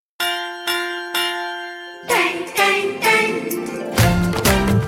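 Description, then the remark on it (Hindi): A school bell rings three times in quick succession, each clear metallic strike ringing out before the next, then lively music with drums takes over. “सुनो घंटी बजी स्कूल की, चलो स्कूल तुमको पुकारे।”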